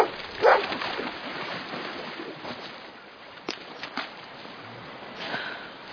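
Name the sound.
dog barking and whimpering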